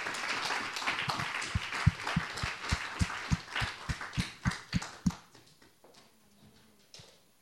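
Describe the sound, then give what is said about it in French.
A crowd applauds the name of Christ, settling into loud rhythmic unison clapping at a steady beat before it quickly dies away into scattered claps and quiet. “Et on veut applaudir le nom de Christ en ses bien-aimés.”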